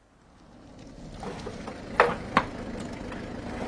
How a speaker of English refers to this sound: What is it? A car's just driven up. It's Giraud with Jacques Renaud and two gendarmes.